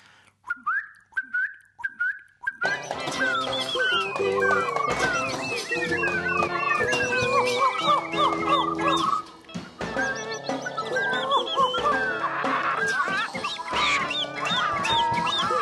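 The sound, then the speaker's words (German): A song thrush sings loudly at very close range, a few sparse whistled notes giving way to a dense, continuous stream of varied, bright phrases with no voices. “Oder bei der Singdrossel, da kommt es immer darauf an, höre ich sie nun von weitem oder höre ich sie von nahem.”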